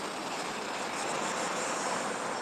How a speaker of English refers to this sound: Train. There's so many trains there. It's ridiculous. Yeah. This is the... That's the N train. That's the N train. It's gone. That was the N train.